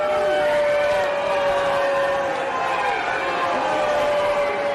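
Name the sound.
crowd booing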